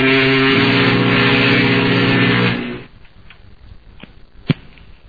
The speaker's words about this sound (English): You know, it's strange. We heard a boat sound,